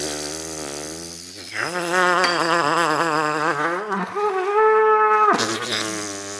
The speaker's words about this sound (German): setzt das Horn an seinen Mund und pustet rein. Sein Mund ist dabei ganz locker. Nur die Gedanken und der Atem bildet die Melodie und die Mitteilung.